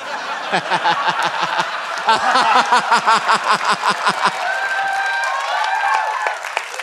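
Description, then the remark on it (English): A live audience breaks into applause mixed with laughter, the crowd noise pulsing in quick bursts before fading into a lighter murmur of scattered claps and voices. “Don't clap.”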